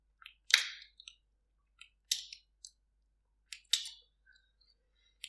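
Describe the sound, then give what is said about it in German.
Wet, clicky lip smacks and chewing noises from a person chewing with relish as an exercise, fairly soft, arriving in three short clusters about a second and a half apart with quiet gaps between, no talking. “Ja, sogar zu schmatzen.”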